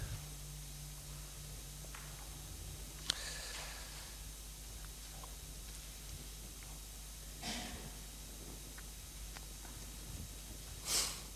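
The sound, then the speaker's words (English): Three short, congested nasal sniffs from a person with a head cold, spaced a few seconds apart and fairly quiet, over a faint steady background hum with no talking. “And I'm not the only one who's got this wretched little sniffly coldy thing.”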